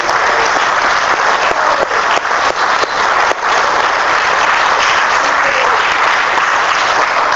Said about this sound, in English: can we give the committee a round of applause?